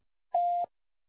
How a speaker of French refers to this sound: Veuillez laisser votre message après le bip.